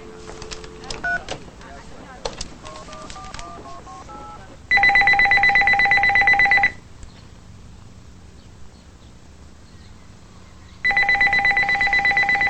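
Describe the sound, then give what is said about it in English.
A quick run of dialing tones, as a phone is redialed from an office, gives way to a loud, steady telephone ring that sounds twice, with a quiet pause between the two bursts. “In his office, Nathan redials the phone.”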